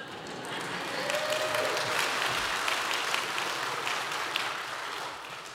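A crowd applauds steadily for several seconds, dense overlapping claps filling the room at a moderate, even level with no speech over them.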